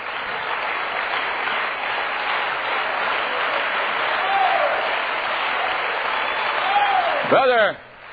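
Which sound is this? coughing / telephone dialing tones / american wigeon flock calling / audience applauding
audience applauding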